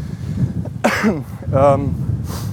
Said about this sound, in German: Auch gut zu husten, wenn man gerade über Corona spricht.